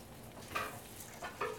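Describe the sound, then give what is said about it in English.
Food for dinner quietly simmering in a pan, a low steady hiss and bubble with a few brief scraping or clinking sounds from a utensil, with no one talking. “Now, we let it simmer.”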